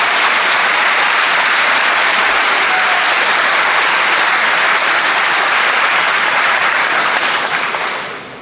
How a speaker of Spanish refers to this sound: Por si no se escuchó por los aplausos, ofende el silencio de aquellos que se dicen republicanos.